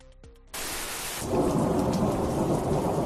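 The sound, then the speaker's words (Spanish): Heavy rain pours down in Madrid, Spain, on Wednesday 1 September after a storm the night before, in a dense, steady roar after a brief quieter opening, swelling louder partway through, with a rumbling storm character and no voices. “Lluvia, mucha lluvia en Madrid tras el temporal de anoche que dejaba 300 intervenciones de los servicios de emergencias.”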